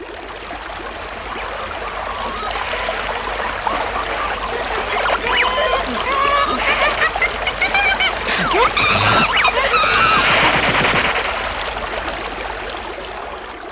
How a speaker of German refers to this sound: Gesänge der Wale von Miriam, 16